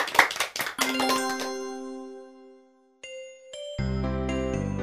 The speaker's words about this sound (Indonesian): Ya, tepuk tangan untuk anak-anak.